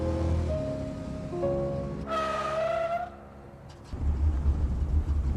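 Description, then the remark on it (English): A dented, dirty car's engine revs up, climbing in pitch, as it speeds toward a man in a parking lot, then brakes hard with a loud, high tire screech that cuts off abruptly, followed by a steady low rumble. “Suddenly, Rob's car speeds towards him, then brakes abruptly.”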